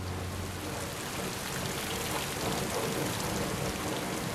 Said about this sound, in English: Rain soaks the muddy pitch in the empty Leeds United Stadium.